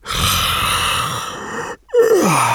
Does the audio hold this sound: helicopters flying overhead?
no